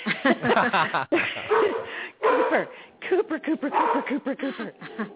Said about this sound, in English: Now, men, forgive me, you're going to hear my dog barking because I am Oh, that's home. Okay. That's and fine. Somebody rang the doorbell, so hold on just a second.